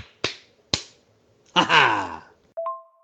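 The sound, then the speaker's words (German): Two sharp, loud slap-like smacks land half a second apart, then a sliding, voice-like whoop and a short steady electronic tone, like cartoon sound effects for a triple slap to the face. “Zack! Boing! Ju! Peng! Triple-Ohrfeige gegen Sebi.”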